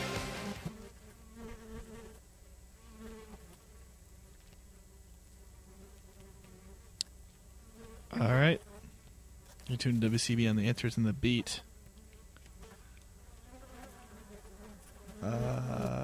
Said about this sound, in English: There's a horde of flies feasting on a rotting pheasant carcass. That's what we're hearing in the background, in case you were wondering. It's bugs eating dead birds.